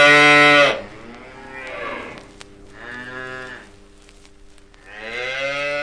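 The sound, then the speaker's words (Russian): Calves moo in a calf barn: a loud bawl at the start, a softer call in the middle, and another strong moo at the end, with no talking. “В телятнике встрепенулись телята.”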